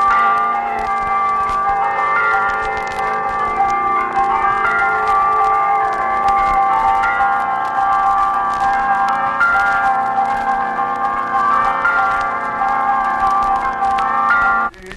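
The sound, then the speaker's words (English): Church bells of a Russian Orthodox church ring out in a dense, continuous peal on Sunday morning as the bell ringer pulls the ropes, many overlapping tones clanging together loudly and steadily for the whole stretch, with no voices. “They are called by the tolling of one of the bells that burst forth with dissonant clamor on Sunday morning when the bell ringer pulls the ropes for the lusty fervor.”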